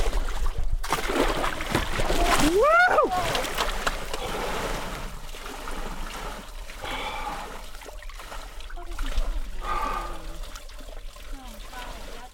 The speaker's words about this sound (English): Yep, and even though I'm not ready to take the plunge yet and climb all the way into this tub of icy water,